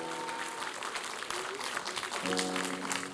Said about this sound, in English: Everybody stand up. Praise the Lord. Give the Lord a clap offering. Come on. Give the Lord God a clap offering. Amen, somebody.